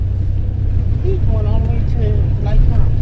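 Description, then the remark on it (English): Steady, loud low engine rumble from inside a moving bus as it pulls away from the curb and winds through the streets of South Los Angeles, carrying families to the women's prisons in Chowchilla in California's Central Valley, with faint, indistinct voices murmuring over the drone throughout. “Everyone settles into their seats as the bus pulls away from the curb.”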